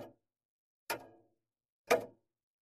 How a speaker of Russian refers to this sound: Тик-так, тик-так. Ночью в тишине и в одиночестве жутко слушать бесстрастное красноречие маятника часов. Звуки монотонные и математически правильные, однообразно отмечающие всегда одно и то же.